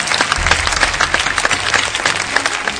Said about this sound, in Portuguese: Palmas para o Daniel.